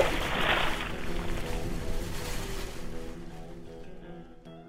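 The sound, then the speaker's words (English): Stormy sea waves roar and crash loudly in a broad, rushing surge with a low rumbling undertone, gradually subsiding and fading away over a few seconds. “Stop the sea from raging.”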